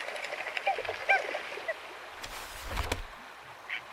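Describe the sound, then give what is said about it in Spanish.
An outdoor wetland scene with a steady bed of chirping insects or frogs, brief bird calls, and a few low splashing, knocking sounds of water near the middle. “Los sonidos de plantas y animales conforman una gran orquesta que ella disfruta en dirigir y coordinar.”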